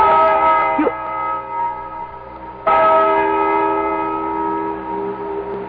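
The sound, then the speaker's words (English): A large bell tolls with a rich, sustained ring, struck twice: the first strike fades slowly and a second, equally loud strike lands midway, its deep hum lingering to the end. “Listen to that bell.”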